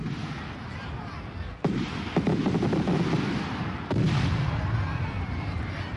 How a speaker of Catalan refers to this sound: La traca final.